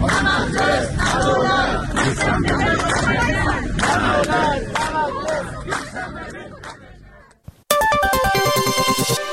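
A large protest gathering in Iran chants slogans such as "Raisi the liar, tell us what came of your promises" and "enough oppression, our table is empty" loudly in rhythmic unison for several seconds, fading briefly before an abrupt cut to a short burst of bright, repeating electronic musical tones.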